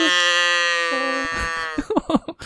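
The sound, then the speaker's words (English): A single long, droning cow moo holds steady for over a second, loud, before fading into a few quick bursts of talking. “edit in the moo so it happened like 5 minutes ago.”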